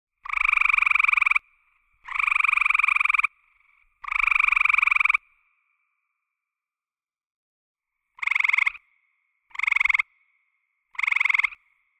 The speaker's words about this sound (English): Well, let's listen to two of those different kinds of calls. Again, this is the eastern gray tree frog.